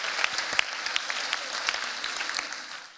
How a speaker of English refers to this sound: Let's clap it up. Let's clap it up for them. Awesome.